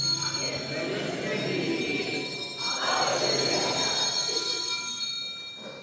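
Many hand bells ring together in a continuous, shimmering jangle from a crowd, steady and fairly loud throughout, with a murmur of voices underneath.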